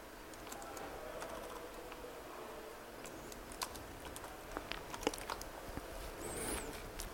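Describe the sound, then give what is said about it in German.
Rapid, uneven clicking of keys on a computer keyboard while typing a command to start JRuby, a steady patter of soft taps with occasional sharper strikes, moderately quiet, with no voices. “Was habe ich jetzt falsch getippt?”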